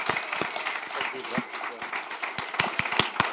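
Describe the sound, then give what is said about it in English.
An audience at a summit claps steadily in a dense wash of applause for guests who traveled from Zimbabwe, with sharper individual claps popping out now and then and a murmur of voices mixed in. “Ladies and gentlemen, can you guys stand up, please, and let's just give him a big round of applause.”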